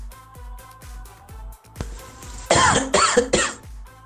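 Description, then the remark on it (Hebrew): A soft rhythmic music bed plays, then a loud run of three or four harsh, hacking heavy coughs bursts in quick succession before fading back to the music; the cough is played as a sample for judging whether it sounds like COVID-19. “אני רוצה לדעת, רגע, בוא נשמע, זה עוד, בוא נשמע רגע עכשיו, שיעול שאתה אומר שזה נשמע קורונה ולא קורונה, בוא נראה.”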